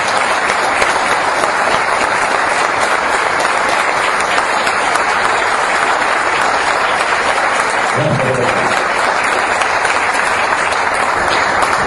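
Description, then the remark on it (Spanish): Sustained audience applause, dense and loud for the whole stretch with steady clapping texture; a brief murmur of voice surfaces around the eighth second. “Para él este aplauso y todo nuestro cariño.”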